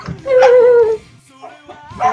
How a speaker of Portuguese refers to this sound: Gente, só um pouquinho que o meu cachorro se soltou, ele está enlouquecido aqui na minha volta. Calma, Marley.